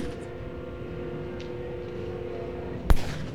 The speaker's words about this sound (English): That sounds like shots, like gunshots, don't it? Sounds like gunshots, man.